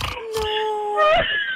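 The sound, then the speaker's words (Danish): A high, thin squeal from a car, drawn out for over a second, wavering and sliding upward near the end, with faint thumps in the background; it has a whining, pig-like quality. “Nej, det er min bil.”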